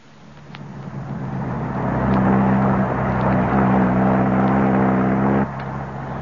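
The engine of an inspector's car, borrowed from a hotel proprietor, starts up and pulls away, rising to a steady, loud rumbling drone with a harmonic whine as it accelerates, then easing slightly near the end. No one speaks.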